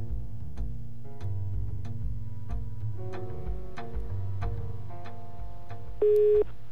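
A rhythmic, pulsing musical backing plays, then near the end a single steady, mid-pitched telephone ringing tone sounds loudly over it for about half a second as Radio Študent phones a guest live on air. No one speaks.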